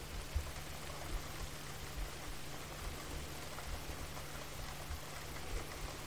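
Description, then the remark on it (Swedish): Steady rain falls in a continuous, even hiss with soft scattered patter, moderately quiet, with a faint low hum underneath and no voices. “Fem andetag, bara följa regnet och andetaget i synk.”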